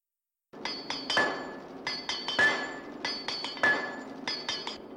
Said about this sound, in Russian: Только один звук раздавался в тишине. Кто-то бил молотом по наковальне.